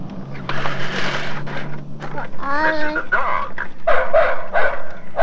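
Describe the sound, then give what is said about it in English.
A dog barks in a handful of short, loud bursts, with a low steady hum underneath at the start and some faint background noise between barks. “This is a dog.”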